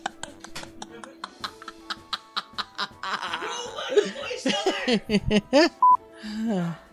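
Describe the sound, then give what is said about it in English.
A phone goes off: a steady series of sharp electronic beeps gives way to a warbling, melodic burst of tones, fairly loud, with a brief steady tone near the end. “Mute your phone!”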